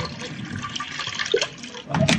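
Cognac is poured into Polly's small dish, a steady trickling splash lasting about two seconds that swells louder near the end.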